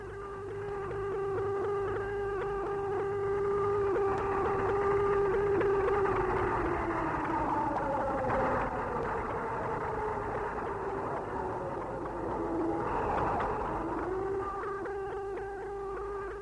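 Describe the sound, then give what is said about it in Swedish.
A steady air raid siren wails over the Israeli part of Jerusalem on the morning of 5 June 1967, as war between Israel and the Arab states breaks out. Its sustained tone slowly rises and falls, with a faint background rumble and no voices. “Det är flyglarmet över den israeliska delen av Jerusalem.”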